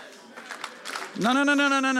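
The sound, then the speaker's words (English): A brief smattering of light, polite golf-clap applause from a small crowd, a few scattered claps for about a second before a man starts speaking loudly. “You didn't hear what I said, because if you'd have heard what I said, it'd have been more than a golf clap.”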